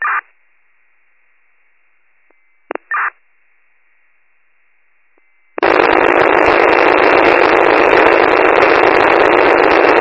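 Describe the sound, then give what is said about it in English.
A fire dispatch tone-out, re-toned only for the tanker from Fire 41: a steady, high electronic alert tone holds for several seconds, broken by a couple of short beeps, then gives way abruptly to a loud, continuous radio static rush. “I'm going to be toning out only for a tanker.”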